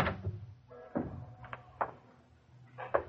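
A door being opened to let in someone running down the street after curfew: a handful of sharp, irregular clicks and thumps from the latch and handle, moderately loud, over a low steady rumble, with no voices.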